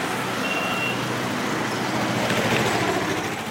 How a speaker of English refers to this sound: In Dhaka, the traffic is satanic in its congestion, but new expressways are being put up